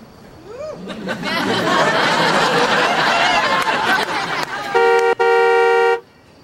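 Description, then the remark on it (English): Overlapping voices and laughter are followed by the horn of a 1966 car with a 289 engine honking twice, a short loud blast and then a longer, steady one. “Horn works.”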